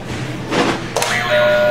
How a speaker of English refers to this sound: Alrighty, can you hit a buzzer for me, please? Another one? Yep, we do it after each activity. But they all sound a little different, so you can pick a different one if you want.